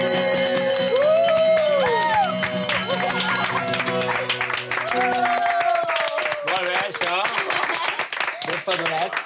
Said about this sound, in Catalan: Tots xiulen i es gronxen, alguns fent petar els dits i d'altres tamborinant les mans a taula.